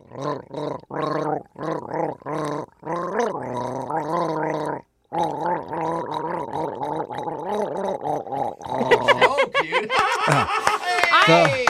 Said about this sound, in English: That was me gargling Jingle Bells with my Bang drink.